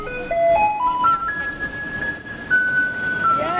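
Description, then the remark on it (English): A school-bus-yellow garbage truck arriving on a street plays its musical jingle, a clear, stepped rising melody of electronic tones over steady street noise, loud, with no talking, as neighbours holding official blue garbage bags wait for it. “There was this mad dash of people swarming to the school bus yellow garbage truck and the white recycling truck.”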